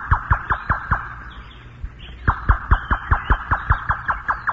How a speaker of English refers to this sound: And there's the familiar sound of the monitor beacon scanning the world for interesting stories and sounds.